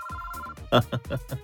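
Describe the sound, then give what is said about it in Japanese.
A telephone rings with a steady electronic tone for about half a second, clear, then gives way to someone talking. “おい、電話が鳴ってるぞ。”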